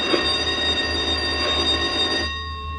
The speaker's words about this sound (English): There goes the no-talking bell.